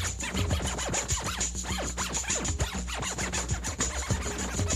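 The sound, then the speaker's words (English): A sampled sound is digitally scratched back and forth with a computer mouse in a software scratch window, in quick, irregular strokes, its pitch swooping up and down over and over at a steady volume, with no talking. “Digital scratching is included, so any sample can be dragged onto the scratch window, and then using the mouse clicking, you can scratch back and forth through it.”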